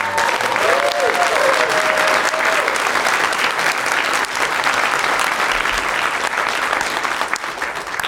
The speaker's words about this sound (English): Round of applause for you guys yourself, right?